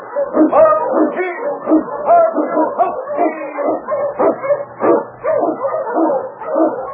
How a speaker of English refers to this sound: The Wonder Dog King, the swiftest and strongest of Eskimo lead dogs, blazes the trail through storm and snow for Sergeant Preston as he meets the Challenge of the Yukon.